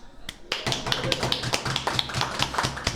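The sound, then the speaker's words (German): A short burst of light applause: a handful of hands clapping in a quick, uneven patter of sharp claps that carries on steadily for a few seconds. “Erst vor kurzem, dafür noch einen kleinen Applaus bitte.”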